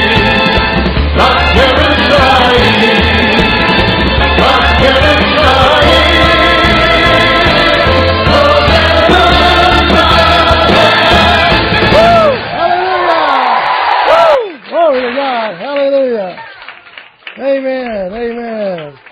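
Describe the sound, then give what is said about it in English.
A crowd of voices shouts and cheers in a loud, dense roar for about twelve seconds, then thins out to a few individual rising and falling whoops and yells. “Some shouting. I like that shouting.”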